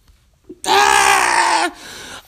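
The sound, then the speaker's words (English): A person gives a loud, strained scream lasting about a second, voiced as an imitation of people fleeing a fire, then trails off into a quieter, breathy tail. “You can hear their screams in the distance.”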